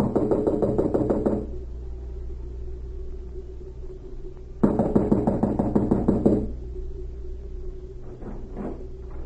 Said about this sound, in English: An hour later, the spy cavalier knocked at the door of a small cottage and was admitted.